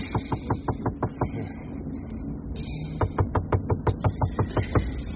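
Rapid, even knocking on the door of room 12a, a quick run of about eight raps, a short pause, then a longer, more insistent burst of a dozen or so knocks. No one speaks.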